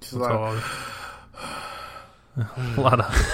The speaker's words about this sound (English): A lot of heavy breathing.